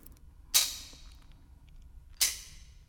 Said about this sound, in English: Yeah, then finally we have the clapper doing the clapping.